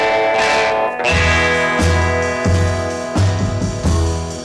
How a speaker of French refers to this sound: qui révolutionne à l'époque l'utilisation de la distorsion en la poussant à un max, jouant très fort sur un ampli où il a percé la membrane.